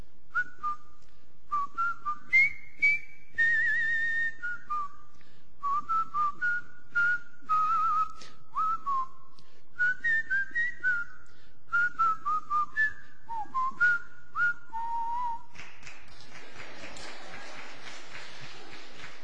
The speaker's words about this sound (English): The movie was The Longest Day, a movie about June 6, 1944. And the theme song that I can still whistle and do now sometimes is Colonel Bogey's March. Whistle it with me.